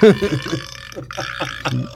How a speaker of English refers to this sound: Well, he thought of it, and he did provide the belching sound.